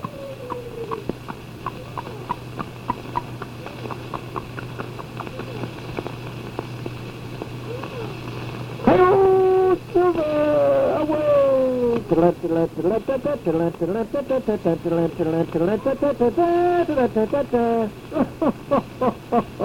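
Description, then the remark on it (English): A human voice mimics a horse's whinny, a loud, wavering neigh that rises and falls in repeated pitch swoops for about ten seconds, following a stretch of quiet background hum. “What a horse. Sounds more like a mule, doesn't it?”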